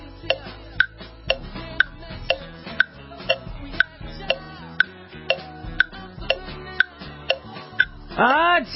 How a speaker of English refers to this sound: Tick-tock. That's how close we are. We can hear the sound of the clock constantly, can't we?